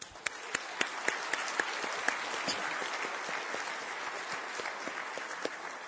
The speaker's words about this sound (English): This event was student organized and student led by many students here, so if we can give every single student here a round of applause, that would be great.